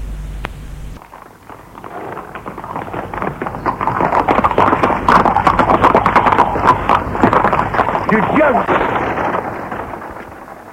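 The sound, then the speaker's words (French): A horse is ridden away from the stables at a gallop, its hooves clip-clopping in a fast, steady rhythm that swells loud, then fades slightly at the end. “Il l'embrasse sur la joue et court aux écuries, prend son cheval, puis part.”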